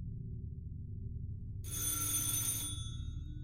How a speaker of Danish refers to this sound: Klokken 9:40 lød dørklokken igen. Denne gang var det budet fra vaskeriet.